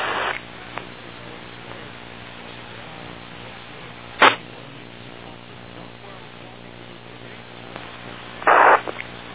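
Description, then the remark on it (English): A radio repeater on the K2RRT net drops out, leaving a steady low hiss and electrical hum broken by two harsh bursts of static, a brief crack midway and a longer squelch-like rush near the end. “I'm going to let the repeater drop here just to see if it's anybody else who want to do a late check-in”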